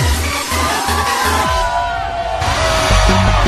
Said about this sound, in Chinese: OK， 唱唱朋友，来点尖叫声好吗？